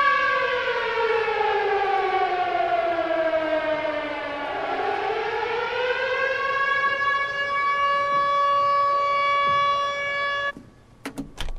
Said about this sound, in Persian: صدای آژیر توی سالن. همه از خواب بیدار میشن، با تعجب به هم نگاه میکنن.